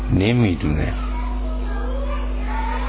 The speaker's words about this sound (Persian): یه جوری بچه ها رو از آزادی مطلق در بیارید. آره، چون صدا نمیرسه پایین. صدای بچه ها از صدای حاج آقا بلند تره.